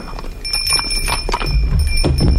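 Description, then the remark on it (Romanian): Horse hooves clip-clop as horses are led slowly on foot by their reins, in an uneven series of knocks over a low rumbling bed, with a faint steady bell-like tone ringing above. “Mergem și noi încet pe jos. Cu cai duși de frâie.”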